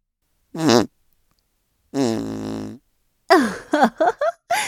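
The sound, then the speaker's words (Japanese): A voice imitates farting: a short buzzy blurt, a longer droning raspberry that sags in pitch, then a quick string of sputtering toots, all loud with silent gaps between. “おばさんのおなら、外に漏れないように全部吸い込むの。”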